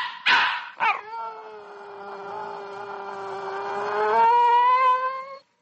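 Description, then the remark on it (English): A dog gives two quick, sharp barks, then breaks into one long, steady howl that swells louder and climbs in pitch near the end before cutting off. No one speaks. Recorded in New York on a portable recorder by Tony Schwartz. “Today, the actual story of a dog's life, as shared and recorded on a portable recorder by Tony Schwartz.”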